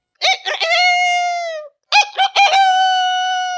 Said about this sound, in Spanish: Aterrorizado, oyó cantar al gallo.